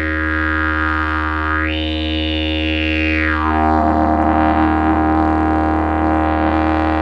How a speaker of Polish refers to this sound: Ten podstawowy dźwięk na didgeridoo to jest dron, prawda? Tak, tak. Podstawowy dźwięk wydobywamy za pomocą parskania konia. To jest podstawa przy tym instrumencie.